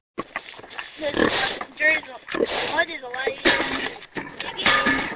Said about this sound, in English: He shows off Effie, one of the sows, eating at a metal feeder.